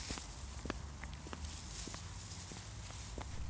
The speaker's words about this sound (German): Und ich finde es auch toll, wenn sich die Blätter langsam bunt verfärben und auf den Boden fallen. Dir macht's bestimmt auch total viel Spaß, durch Blätter zu laufen. Dann raschelt es so schön, wie jetzt gerade.